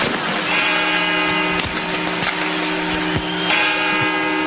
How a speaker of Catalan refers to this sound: Se tindrà una gravació del que fa les campanes. El que fan darrerament, si t'hi has fixat, és gravar-ho abans. És a dir, ho graven 3 dies abans, sí.